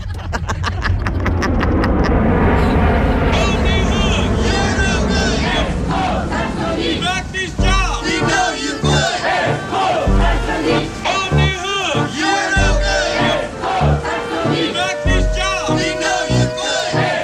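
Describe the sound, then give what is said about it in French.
A loud crowd of protesters, laid-off Samsonite workers with laid-off and unemployed Americans, shouts and chants together in October 2012 after coming to file a complaint at the court in Boston. Many voices overlap in a dense roar that settles into a steady rhythmic chant with pulsing beats. “Voilà les Samsonites manifestants avec des licenciés américains, avec des chômeurs américain, c'était effectivement en octobre 2012.”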